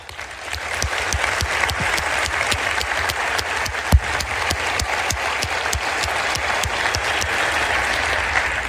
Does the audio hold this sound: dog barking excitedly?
no